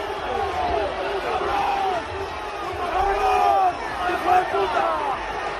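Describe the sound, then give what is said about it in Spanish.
A stadium crowd of Real Valladolid football fans in Valladolid chants monkey noises at Vinicius on the last day of the year, many voices hooting in repeated rising and falling bursts over a steady roar of crowd noise, loud throughout. “Hay que destacar que le llamaban mono, le hacían el grito del U.”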